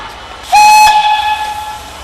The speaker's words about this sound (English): And with a toot and a hiss of steam, we're off. Hello, Margot Foster with you on board a bright green little steam locomotive to travel the West Coast Wilderness Railway in Tasmania's west.